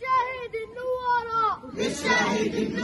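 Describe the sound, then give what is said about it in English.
A single loud voice calls out a drawn-out, sing-song line, then a crowd answers together in a dense, roaring shout, a call-and-response chant at a gathering outside a family home in Nablus, northern West Bank, led by his son welcoming his father's martyrdom. “In this video posted by a Palestinian news agency, …'s son is leading the crowd, welcoming the martyrdom of his father.”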